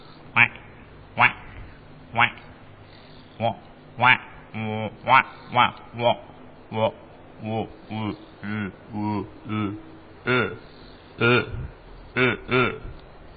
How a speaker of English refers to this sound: Cape Baron Geese.